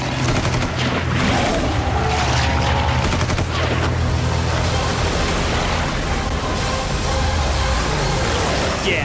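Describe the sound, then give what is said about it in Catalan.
The intro sting played before film festival screenings in Sitges: a loud, dense cinematic sting, with rapid gunfire-like bursts crackling over deep droning tones, sustained at full intensity for several seconds with no voices. “Doncs aprofitem que és el penúltim dia per escoltar un cop més la careta de les projeccions del Festival de Cinema de Sitges.”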